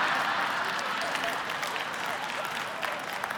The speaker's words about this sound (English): Yeah, you're applauding for that one, aren't you? Yeah.